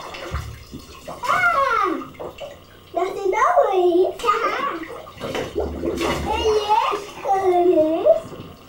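Water sloshes and splashes in a bathtub as a child washes their hair, mixed with the child's high-pitched, whiny vocalizing that runs through most of the moment.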